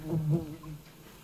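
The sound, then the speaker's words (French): Bees buzz in a low, steady drone that swells loudest at the start, then settles into a softer, continuous hum. “Partons à la rencontre des abeilles.”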